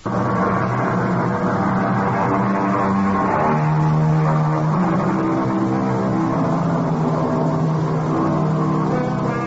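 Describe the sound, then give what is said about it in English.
The twin diesel engines of a 50-foot sport-fishing motorboat drone steadily and loudly, a deep, continuous rumble with a slight shift in pitch partway through, and no voices. “She's a 50-foot twin diesel river witch, the sport fisherman's dream.”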